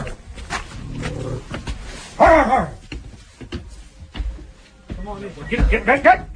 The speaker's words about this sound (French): They love me, I love them. Je les aime, ces chiens. Les bergers allemands.